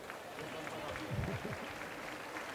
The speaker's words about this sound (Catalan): Passen per entremig del públic i els aplaudeix també doncs, per la seva col·laboració, evidentment, en aquesta sàtira que els hem fet els Diables.